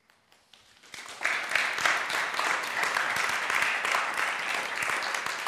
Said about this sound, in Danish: Det er så dejligt, I klapper, især efter sådan en lang prædiken, fordi så dem, der lige sad og sov lidt nu, ved de, nu kan vi godt vågne.